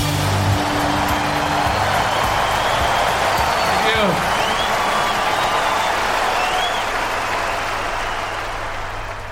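A large live concert audience in London roars and applauds in a dense, continuous wash of cheering and clapping, with a few shrill whistles cutting through, holding loud before easing slightly at the end.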